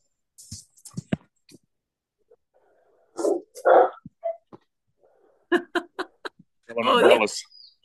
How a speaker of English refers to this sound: And my landlord's dog is crazy.